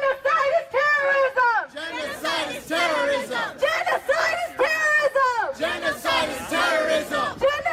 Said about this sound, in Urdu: مظاہرین نسل کشی من کرو, نسل کشی دہشت گردی ہے اور ہمیں کیا چاہیے, انصاف انصاف کے نعرے لگا رہے تھے. انہوں نے 1.5 سے 2 گھنٹے تک برما سفارت خانے کے اطراف میں مظاہرہ جاری رکھا.